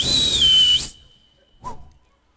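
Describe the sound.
A man aboard an old B-25 bomber sitting in a bean field at midnight lets out a single loud, piercing whistle that holds high and then dips slightly in pitch before cutting off, followed by a brief, softer sound and quiet.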